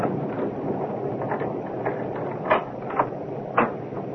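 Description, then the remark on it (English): A key rattles and turns in the lock of a front door with a few sharp metallic clicks, then the door opens, against a steady background hiss. “Oh, It's locked. Do you have a front door key”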